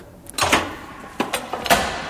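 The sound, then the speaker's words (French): A door opens with a sharp latch click and a couple of clunks and rattles over quiet background noise, with no one talking. “J'ai pas pris mon badge. Je vous tiens la porte?”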